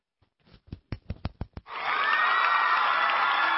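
A handful of sharp, evenly spaced claps quickly swell into a steady, dense wash of audience applause welcoming a speaker to share his fitness story, holding at full loudness to the end, with no voices.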